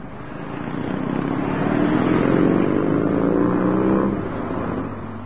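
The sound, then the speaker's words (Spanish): A motorcycle engine revs up steadily, its pitch climbing to a sustained loud roar before easing off slightly near the end, with no voices. “Con su amigo, el también médico Alberto Granado, se lanza un viaje en moto por toda América.”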